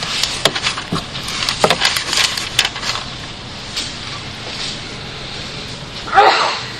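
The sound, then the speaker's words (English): A single sharp sneeze from someone in the audience at a sermon bursts out near the end, after a stretch of scattered clicks, rustles and shuffling noises. “Bless you.”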